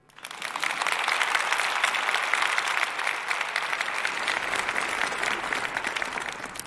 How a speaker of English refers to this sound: Please welcome her with a huge round of applause.